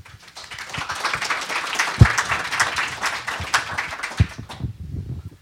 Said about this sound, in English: Yeah, I was going to ask you all to clap for everybody. I think they did a really good job.